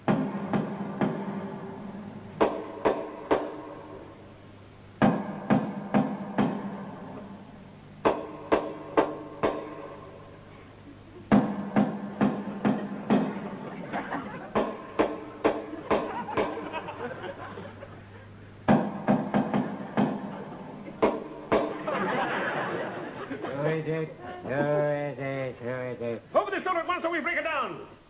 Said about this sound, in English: This is the house, and I shall now give the secret knock that only he and I know.